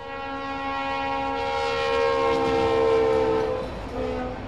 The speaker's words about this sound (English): you're stuck waiting for a train and hoping it doesn't stop on the tracks.